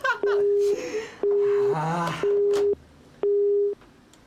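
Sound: phone busy tone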